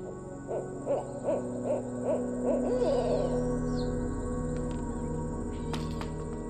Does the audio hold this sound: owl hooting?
yes